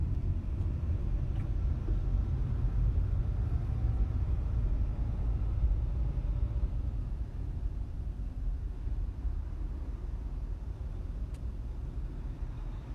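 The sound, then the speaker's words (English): Steady low-frequency rumble inside a car driving in traffic, a constant engine and road drone filling the cabin with no one speaking, holding at an even level throughout. “Because if it's, like, a 4-minute difference, then I'm just going to stay on this fucking road and sit in the fucking traffic.”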